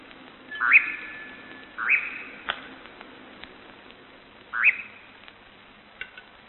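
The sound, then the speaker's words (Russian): A bird circles in flight over night clearings, giving three abrupt, harsh cries spaced a second or more apart, with a few faint sharp clicks and soft wing flapping between them over a quiet background. “Вот он взлетел и кружит с отрывистым криком и хлопанием крыльев над ночными полянами.”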